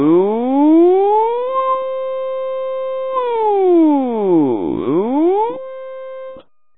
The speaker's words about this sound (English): Good morning. It is 4:30. Here is your early morning alarm call." A huge blast made of warbles, barks, whistles, and sirens shakes the ship.